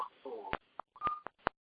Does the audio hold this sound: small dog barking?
no